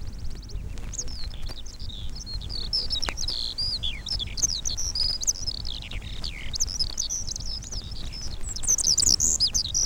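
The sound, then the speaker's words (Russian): A skylark rising into the sky from between field strips at sunrise sings a rapid, high-pitched warbling song that pours out continuously without a break, clear and close over a low, steady rumble of outdoor background noise. “Солнце встает над горизонтом, поднимается все выше, выше, ударяет лучами по серебряной росе на луговых цветах, и тотчас совсем рядом из межин устремляется в небо жаворонок.”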